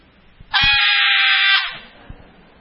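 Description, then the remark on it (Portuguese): A preacher lets out one loud, shrill, sustained scream lasting just over a second, imitating a shrieking female fan at a rodeo, with a few soft thumps before it and quiet background noise after. “tem umas que berra bem”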